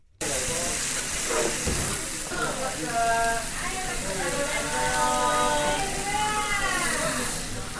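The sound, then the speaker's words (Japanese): Beef short rib (gyu karubi) sizzles steadily on a hot iron plate at the Aozora Shokudo restaurant in Nakagawa, a loud continuous crackling hiss that runs the whole time, with faint voices murmuring underneath. “いろいろ定食が豊富なんですけど、とりあえずこの単品で牛カルビ、この鉄板のジュージューいう感じがいいですね。”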